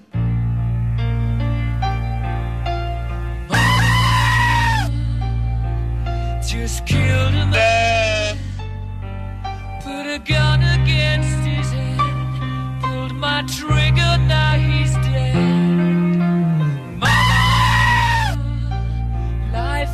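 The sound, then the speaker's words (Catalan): Loud, harsh goat screams from the famous screaming-goat internet meme burst out several times over a steady musical backing, as in a song remix with the goat as singer, each yell lasting a second or two and cutting sharply through the rhythmic accompaniment. “Cabra cridant és un dels memes més famosos d'internet, un vídeo de 7 segons penjat a YouTube”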